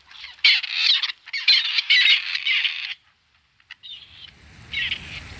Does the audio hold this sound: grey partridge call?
yes